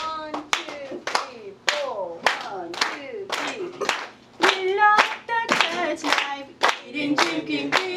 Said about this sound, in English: Okay, let's clap our hands.